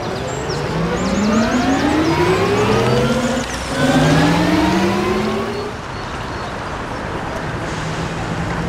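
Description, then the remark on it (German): Simulated future street traffic of electric cars: whining electric motors rise in pitch as vehicles pass, two smooth ascending tones overlapping, over a steady wash of road noise; no engine rumble, a soft futuristic hum, with chirps faint at the start. “Aber nach der aktuellen Forschung beschreibt man irgendwie, dass auf jeden Fall mehr Elektroautos, mehr Segways und auch mehr Fahrräder in Zukunft unterwegs sein werden.”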